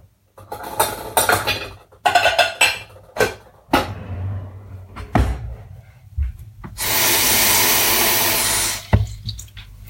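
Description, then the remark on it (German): Metal pots and pans clatter and clank in a series of sharp knocks while a water bath is being set up, followed by a steady rush of running water filling a pot, then a few more clinks. “Wasserbad.”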